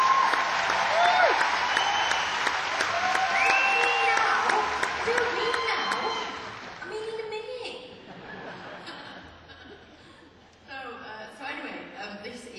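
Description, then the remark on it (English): An audience claps loudly and steadily for several seconds, with a few cheers and whoops on top, before the applause thins out and dies away under scattered murmurs. “And if you clap loudly, welcome.”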